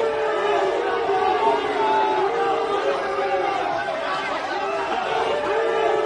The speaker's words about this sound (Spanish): Son gritos de esta misma tarde, gritando y aplausos de todo para recibir a Cristiano Ronaldo con la Juve.